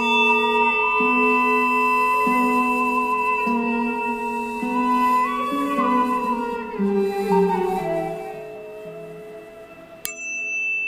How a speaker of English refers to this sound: Healing tones to open up and operate.